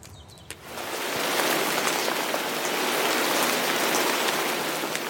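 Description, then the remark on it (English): Steady rain begins after a brief quiet moment and then pours continuously, a dense hiss of drops with occasional sharper patters striking a surface, fairly loud. “Polly Atkin is one I really enjoyed as well, and this is very much about the weather and rain in particular.”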